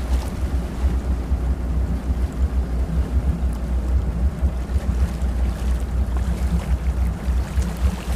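boat on open water

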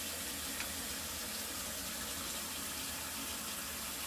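water running

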